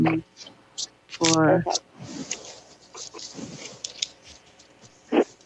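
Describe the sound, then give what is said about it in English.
A deck of cards being shuffled, a steady papery rustle with quick crisp flicks running for several seconds, after a short burst of a voice near the start. “While I'm shuffling, the first thing that's coming out is that they love your energies.”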